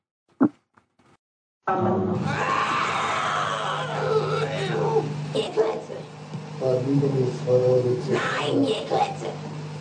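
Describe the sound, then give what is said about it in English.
After a brief knock and a moment of quiet, a young Bavarian girl shrieks and wails loudly and almost without pause during a recorded exorcism, her strained, rasping cries rising and falling for several seconds. “It's like shrieking. It's pretty freaky.”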